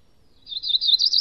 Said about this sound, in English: So a lot of warblers kind of sound similar, but that was a cerulean warbler.